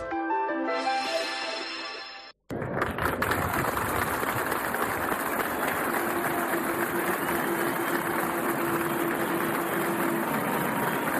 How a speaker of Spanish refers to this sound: Esto que escuchan es el sonido de los aplausos de los asistentes que están hoy en el municipio de Agaete, porque está viviendo la rama más triste seguramente en mucho tiempo.